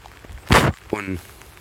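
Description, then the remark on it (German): A raindrop hits the USB socket of a phone that is being charged, giving one short, loud burst of harsh crackling noise, followed by a brief voiced exclamation from a person. “für das Geräusch gerade möchte ich mich entschuldigen, aber es ist ein Tropfen direkt auf die USB-Buchse, wo das Handy aufgeladen wird, getropft.”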